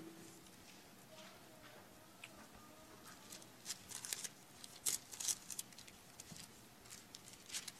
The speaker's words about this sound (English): I just had my Bible rebound. It's a little stiff right now, turning pages.